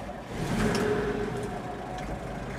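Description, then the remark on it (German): A car, used by a postal worker to take letters to a mail sorting centre in Germany, drives past, its engine rumbling steadily with a low whine that rises slightly, over a constant wash of road noise with no voices. “Sie werden von einem Postmitarbeiter abgeholt und per Auto zu einem Briefzentrum gebracht.”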